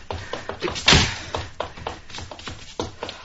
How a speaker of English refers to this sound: What was that? Sounded like gunshots. What, where? They came from out and back. Maybe it was just a car backfire. No, there were shots, all right.